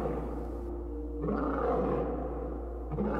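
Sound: lions roaring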